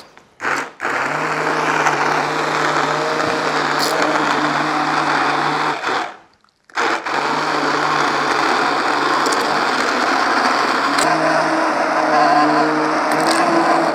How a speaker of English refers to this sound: So we're just going to use our trusty stick blender, my favourite tool in the kitchen. So it's just like a blender that you can use in a pot. And we're just going to blend this up.